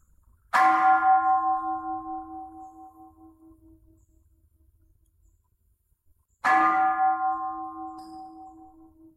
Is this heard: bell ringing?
yes